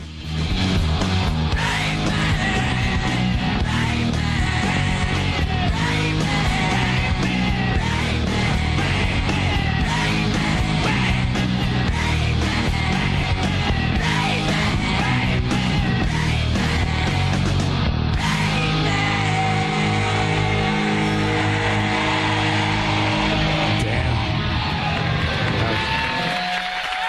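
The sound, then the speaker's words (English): A large crowd screams and cheers continuously at full volume for the whole stretch, a dense roar of voices with scattered yells, easing slightly in intensity toward the end. “Here comes the screaming.”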